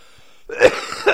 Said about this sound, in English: Sorry about my coughing there. It's just how it's gotta be.